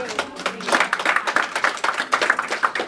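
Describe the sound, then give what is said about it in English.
An audience at a church service breaks into applause for the fathers present on Father's Day, a steady wash of many hands clapping at moderate volume for a few seconds, with a faint voice or two mixed in. “Round of applause for all the dads in here.”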